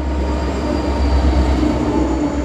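A train rumbles steadily along the tracks in Pittsburgh, a loud, continuous low roar with a faint metallic whine riding above it, with no voices.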